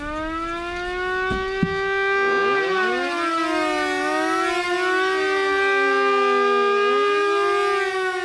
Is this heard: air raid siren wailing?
yes